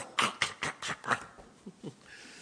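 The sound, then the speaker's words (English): A voice imitates a bear growling with a rapid series of five or six harsh, breathy grunts, fairly loud, trailing off into a couple of softer, lower huffs. “Or you hear some bear going.”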